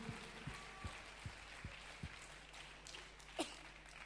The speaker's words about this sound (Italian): Vogliamo applaudire il Re. Alleluia.